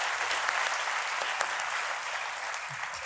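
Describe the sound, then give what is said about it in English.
An audience applauds for the film The Big Sick, clapping steadily in a dense wash of many hands at an even, moderately loud level that holds for the whole stretch with no talking over it. “I just wanted slightly more applause for The Big Sick than male stripping.”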